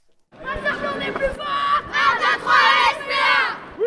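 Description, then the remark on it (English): Girls from a Paris soccer club cheer and chant together at the Gare de Lyon train station as they set off for a tournament in the south of France, in loud, high-pitched bursts, voices overlapping in an excited, rhythmic crowd yell that rises and falls for several seconds. “These enthusiastic girls from a Paris soccer club set off from the Gare de Lyon train station for a tournament in the south of France.”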